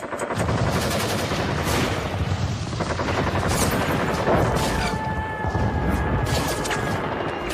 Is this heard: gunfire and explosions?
yes